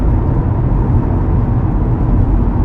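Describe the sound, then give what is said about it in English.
Steady, loud rumble of a car's road noise from inside the cabin while driving, a constant low roar and hiss of tires on pavement with no talking. “This car makes so much road noise.”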